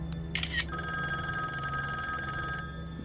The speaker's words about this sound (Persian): تلفن لابی نزدیک اتاق جلودار.